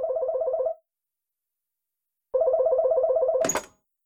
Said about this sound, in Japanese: リビングの大きなテレビで二人でゲームを楽しんでいたとき、家の電話が鳴りました。